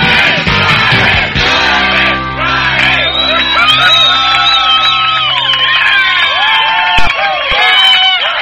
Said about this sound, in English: Okay, well-deserved applause tonight, for sure. Welcome to Liberty Lounge.